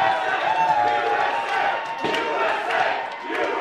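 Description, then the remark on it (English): A large crowd at a Republican election watch party cheers loudly and continuously after the announcement that Donald Trump had likely clinched the presidential election, a dense wash of shouting and whooping voices that swells in waves with scattered yells rising above the roar, as balloons fall from the ceiling. “As the crowd cheered, multicolored balloons rained down from the ceiling.”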